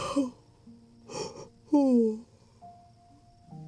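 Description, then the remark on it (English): A drawn-out yawn from a little one at bedtime: a couple of breathy inhales, then a voiced groan that slides downward in pitch and fades, followed by quiet background hum. “Oh, that was a big yawn, baby.”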